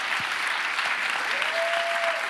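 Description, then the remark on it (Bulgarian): Dense, steady applause from an audience fills the whole moment, a continuous wash of many hands clapping, with a faint tonal whistle rising briefly in the background. “О, ако ръкопляскаш, ръкопляски, като че наистина вярваш.”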